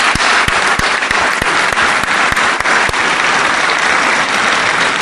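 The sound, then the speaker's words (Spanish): A crowd in Uruguay applauds the country's athletes competing at Maracanã in Brazil. The clapping is steady, dense and loud throughout, with sharp individual claps standing out against the broad wash of applause. No one speaks. “Así que también para nuestros deportistas, que ahora además están compitiendo en Brasil, precisamente en Maracaná, yo creo que el pueblo uruguayo les tiene que dar un aplauso y agradecer todo lo que están haciendo.”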